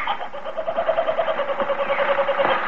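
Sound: kookaburra call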